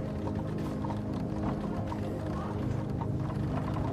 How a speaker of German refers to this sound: Das regelmäßige Getrappel der Hufe gibt den Takt der Gesellschaft an. Ein Murmeln erfüllt die Straßen. Nicht zu laut, nicht aufdringlich, nur echt und lebendig. Kein Motor, kein Schreien, kein schrilles Durcheinander.